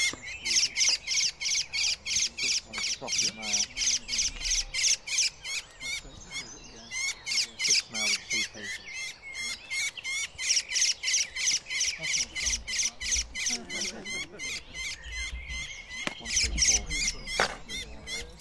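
A dawn chorus of birds singing, with rapid, rhythmic high chirps repeating steadily and densely throughout, fairly loud, layered with other calls beneath and a faint low rumble.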